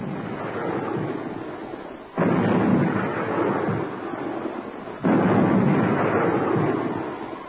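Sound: cannon fire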